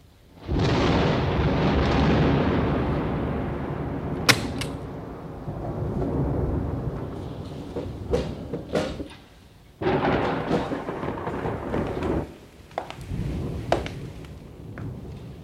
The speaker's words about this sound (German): Der Regen, das Gewitter.